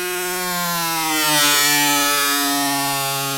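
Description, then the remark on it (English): A buzzy internal default preset voice on a Yamaha DX7 Mark II D synthesizer mimics a moped engine, holding a steady, reedy pitch with a brief dip and swell midway, loud and alone for a few seconds. “Oh, that's a moped.”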